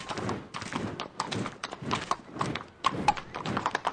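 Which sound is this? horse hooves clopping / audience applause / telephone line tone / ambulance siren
horse hooves clopping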